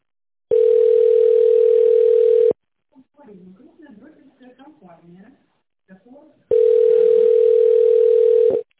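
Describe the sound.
A telephone ringback tone while calling the Eltera company: two long, steady mid-pitched beeps of about two seconds each, loud and clean, separated by a recorded voice in Russian asking the caller to dial an employee's extension or wait for the secretary.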